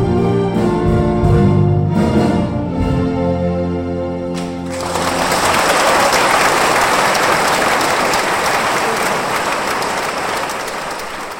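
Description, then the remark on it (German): At a Wednesday-evening benefit concert by the Toggenburger Jugendorchester Vivaldissimo, a Swiss youth orchestra, sustained orchestral chords ring out for a few seconds. They give way to a dense, steady wash of audience applause honouring the young musicians, many hands clapping at once with no voices. “Vom Publikum geehrt mit viel Applaus.”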